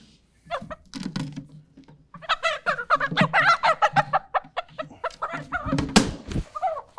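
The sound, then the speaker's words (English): A rooster vocalizes: a few short calls at first, then a loud, rapid run of harsh, harmonic clucking notes lasting several seconds, ending with an abrupt noisy burst. “This is the only rooster that I brought, so.”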